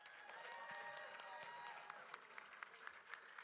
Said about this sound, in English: Can you give our live stream family a big hand clap?